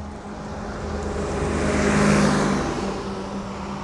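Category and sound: vehicle, large bus passing by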